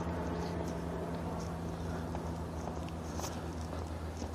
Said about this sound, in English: That was just two planes just went over just now.